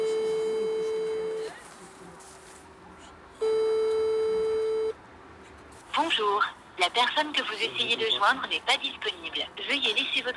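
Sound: telephone call tone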